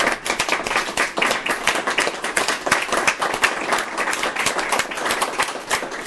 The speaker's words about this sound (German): Und deshalb an die Mitarbeiter nochmal meinen ganz, ganz herzlichen Dank, und ich denke, wir können das mit einem großen Applaus auch mal würdigen, ne?